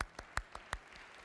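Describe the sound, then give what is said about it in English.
A handful of sparse, evenly spaced claps from an audience during a sermon, about five sharp slaps in a quick rhythm, fairly faint, with no voices over them. “Yeah, you can clap.”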